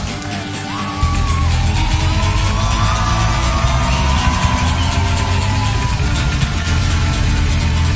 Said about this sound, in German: Frenetisches Gejubel aus dem Publikum.